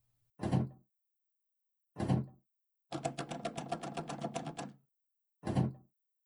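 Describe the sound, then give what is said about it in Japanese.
The stuck door of an old school gym storage room is yanked and rattled without opening: two single heavy clunks, then a rapid burst of rattling for about two seconds, then one more clunk, loud, no voices. “あら、あら、扉が開かないわよ。ねえ、あなたちょっと試してみてよ。”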